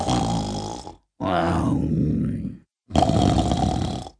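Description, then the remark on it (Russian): Three loud, rumbling snores with short pauses between them, each a drawn-out growling breath, a human voice imitating a wolf snoring as it sleeps under a bush. “Видит, под кустом волк спит, страшным голосом храпит.”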